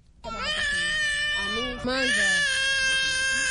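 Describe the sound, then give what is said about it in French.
A hungry Congolese refugee baby, held in its mother's arms on the beach at Rumonge, Burundi, just after arriving by pirogue from the Democratic Republic of Congo, wails loudly, a sustained, high-pitched cry that breaks off briefly for a breath partway through and then resumes just as strongly. “Ce bébé a faim car depuis sa venue mercredi, aucune aide en nourriture n'a été donnée à ces réfugiés congolais”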